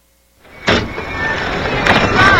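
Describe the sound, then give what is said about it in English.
A car door swings open and bangs into another car with a sharp thud, followed by steady outdoor rumble and a second knock shortly after. “I know you didn't think anyone would catch you, but you just slammed your door into my car.”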